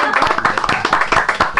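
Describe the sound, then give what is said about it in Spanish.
A short burst of applause from several people for a sale, a dense, rapid patter of hand claps at steady loudness with some voices mixed in underneath. “Claro, sí, un aplauso para la venta, claro que sí.”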